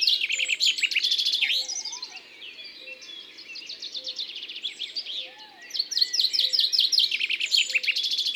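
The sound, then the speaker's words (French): A common chaffinch sings repeated bright song phrases that begin with well-separated notes and accelerate into a descending flourish, clear, while other chaffinches give short calls in the background. “C'est un oiseau inlassable. Il répète sa chanson plus de 1000 fois par jour. On entend des cris d'autres pinsons.”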